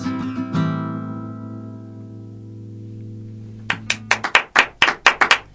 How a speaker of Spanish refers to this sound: Los aplausos, León, es lo único que te pido